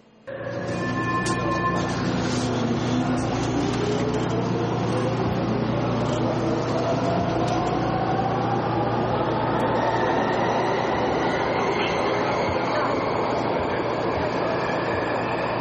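Inside a moving subway car: a loud, steady rumble of wheels on track, with an electric motor whine that climbs in pitch as the train picks up speed.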